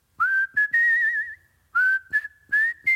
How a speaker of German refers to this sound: Kurzes Pfeifrätsel. Pfeifrätsel? Oh. Pfeifrätsel.